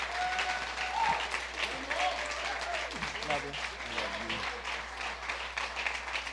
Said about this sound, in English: New Chapel, would you stand to your feet, clap your hands, and honor the man of God,